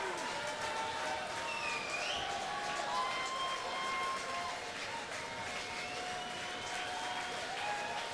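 A sold-out concert crowd at the 930 Club applauds and cheers without letup during a show, a dense wash of clapping with whoops, shouts and shrill whistles rising over it, loud and steady throughout.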